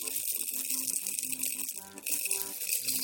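A steady rattling clatter of many small buttons being rifled through, stirred and shuffled, continuous, with quick overlapping clicks and no voices.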